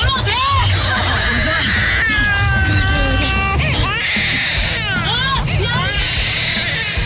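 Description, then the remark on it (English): A child screams and wails in long, rising and falling cries, loud, over a constant murmur of crowd chatter that fills the background throughout. “Who'd want to be at Disneyland? Screaming children.”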